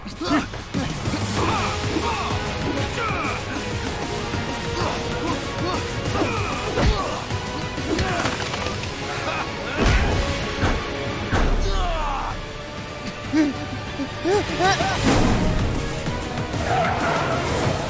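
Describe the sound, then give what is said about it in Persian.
An SUV slams into a car several times, loud crunching impacts over a steady engine roar and brief tire skids, with voices talking underneath. “میخوام ولی میکومه به من خودش. مثلا شاسی بلند سواری، خب تو هم بزنش.”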